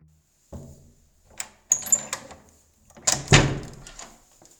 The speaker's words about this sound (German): Bevor er über einen versteckten Hebel eine Türe öffnet, und in dem Waggon verschwindet.